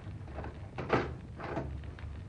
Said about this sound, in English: May I turn the key in the door? By all means.